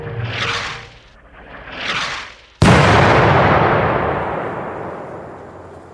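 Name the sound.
explosion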